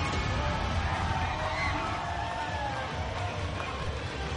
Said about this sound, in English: Good crowd tonight, excited crowd tonight. They've been involved all evening long. They love the Lara home run. Mets getting out of some tough jams. They booed the umpire plenty of times, even though we agree with all the calls made so far.